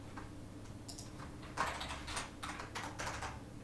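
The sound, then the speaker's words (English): Quick, irregular clicks of someone typing on a computer keyboard, moderately loud, with bursts of keystrokes over a low steady hum and no voices. “Why does it always type backwards when I first start typing?”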